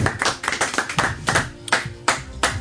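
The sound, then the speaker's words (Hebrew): A small audience claps together in a steady, rhythmic burst of applause, each clap sharp, continuing for a few seconds with no voices over it. “לא נכון, כפיים לחיים שנפרד מאיתנו בצער.”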